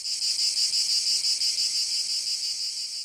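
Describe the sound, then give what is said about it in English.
A cicada's loud, continuous high-pitched buzzing drones without a break, pulsing faintly in waves, alone with no voices; the sound comes from vibration about 7,000 times a second, amplified by the insect's hollow body. “Basically, the inside of a cicada is a boombox.”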